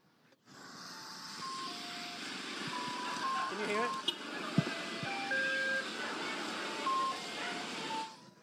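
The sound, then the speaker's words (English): A tinkly ice cream truck jingle plays a simple repeating melody of bright, sustained tones over steady street noise, with a brief spoken question near the middle. “And have any of you ever chased the ice cream truck?”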